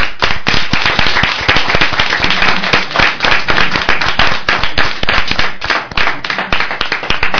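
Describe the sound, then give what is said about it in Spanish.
A crowd breaks into sustained, loud applause for the tapa competition winners from Parla, many hands clapping in a dense, crackling rhythm that holds steady for several seconds with no voices over it. “Pero para conmemorar que están aquí los ganadores de los que han venido con del centro de aquí de Parla, que son los ganadores de la tapa, y va dedicada a ellos, y un aplauso por ser los ganadores, los de aquí de Parla.”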